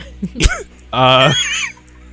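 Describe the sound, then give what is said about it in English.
A person imitates a goose honk as a clue in a guessing game, with a short sharp burst followed by a longer nasal, buzzy honk, loud, with no other talking. “It's a type of bird that honks.”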